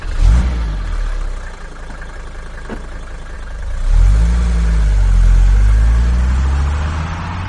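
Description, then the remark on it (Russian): A car engine turns over and rumbles, then revs up and pulls away with a rising, steady drone that holds to the end. No voices. “А сейчас садитесь в машину и поехали.”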